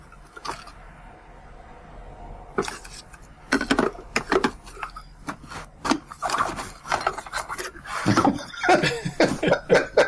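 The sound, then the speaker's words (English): Paper being shuffled and handled as a piece of paper is got out to write ratings down: dry, crinkly rustles in irregular bursts, faint at first and then louder and busier, with scraping and light knocks mixed in. “Shuffle, shuffle, shuffle. A Foley artist couldn't do it any better.”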